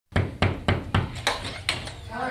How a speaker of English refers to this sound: Two law enforcement officers knock on the door and greet a woman on the other side.